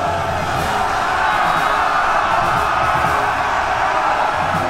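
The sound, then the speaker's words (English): A massed roar of many voices yelling and whooping at once, loud and steady throughout: Fletcher's army of 300 men charging the Adrian army from a hillside lit with torches and lanterns, screaming for the Unseen One. “And then they attacked, screaming the entire way, for the Unseen One.”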